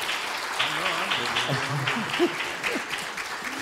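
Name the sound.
audience applause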